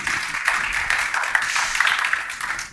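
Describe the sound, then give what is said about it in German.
An audience applauds steadily, a dense crackle of many hands clapping at once that holds an even, fairly loud level throughout, with no voices over it. “Applaus hören wir immer gerne.”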